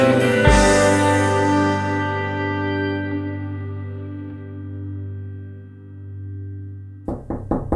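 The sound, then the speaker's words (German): A long, reverberant musical chord swells and slowly rings out, then a quick series of three or four sharp knocks on a door sounds at the very end, with no one talking. “Ja, dann schauen wir mal, wer heute an der Tür steht und zum Finale unseres Jubiläums-Podcasts begrüßen können.”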